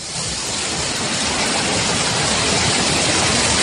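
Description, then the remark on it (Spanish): The swollen Galindón stream in San Nicolás del Puerto, north of Seville, Spain, rushes loudly and steadily after overflowing through the town in persistent rain, a dense, continuous roar of churning water with no pauses and no voices. “Es el sonido del arroyo Galindón en San Nicolás del Puerto, al norte de Sevilla, cuyas aguas van a parar al Güeznar, que es uno de los tres grandes ríos de la Sierra Morena sevillana.”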